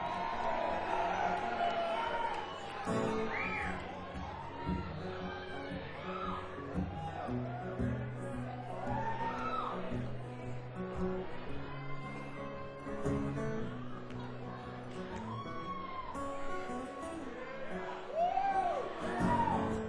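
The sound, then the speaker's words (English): A large concert crowd yells and cheers continuously, calling for a song, with overlapping shouts and whoops rising out of a dense, steady roar that stays loud for the whole stretch. “I would never do this song, but you guys are yelling it, so you must really want to hear it.”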